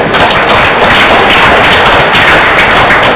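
An audience at a Mass breaks into sustained applause for the families marking their 25th and 50th wedding anniversaries, a dense, steady wash of many hands clapping at even loudness throughout, with no voices standing out above it.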